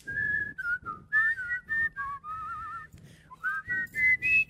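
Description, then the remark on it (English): Two people whistle a melody together in harmony, their clear tones moving in parallel through a series of short and sustained notes, fairly loud with no talking. “We tried to harmonize whistles once.”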